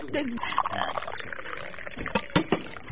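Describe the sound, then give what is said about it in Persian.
Warm water pours steadily for a few seconds, a continuous splashing trickle with a thin high ring, while people talk faintly in the background. “وی من از دسته که فکر شوروا بودم به تو شوروا نه به تو او گرم آوردم.”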